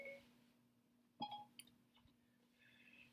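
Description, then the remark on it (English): A short electronic chime from a phone as the Siri voice assistant activates, a quick pair of bright tones about a second in, followed by faint blips, over a steady low hum with no one talking. “I don't know if you guys caught that, but my phone, Siri jumping on my phone notwithstanding.”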